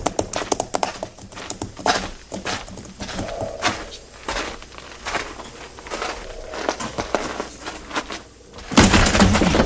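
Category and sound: animal, horses moving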